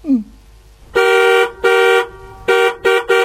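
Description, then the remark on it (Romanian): A stationary car's horn honks five times in short, loud blasts, the first two longer and the last three quicker, with no talking. “Stăm pe loc, pericolul a trecut și dumneata claxonezi?”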